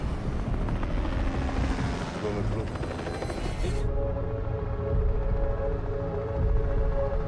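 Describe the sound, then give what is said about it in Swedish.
A helicopter's rotor thrums loudly and steadily throughout, with a dense low rumble and layered tonal hum, like a dramatic soundtrack moment with no voices, from the trailer for a new Netflix series about a helicopter robbery. “Jag undrar om vi kanske kan lägga in trailern här någonstans.”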